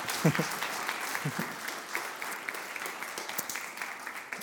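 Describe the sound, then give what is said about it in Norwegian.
An audience claps steadily for a guest after the result of his experiment is shown, a dense wash of many hands with sharp individual claps popping out, holding a fairly even loudness throughout. No one speaks over it. “Gi en god applaus igjen, Andreas.”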